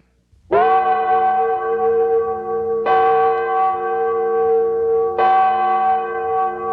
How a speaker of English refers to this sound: 200 years ago, the Liberty Bell tolled the beginning of our life as a nation.